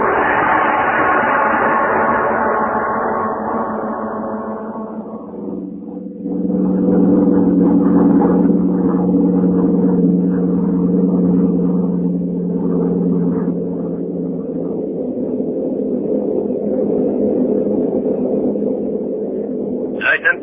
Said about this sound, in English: Tonight we tell you a story about two gentlemen of the German army, the Nazi army. The scene is a bombing plane flying over England.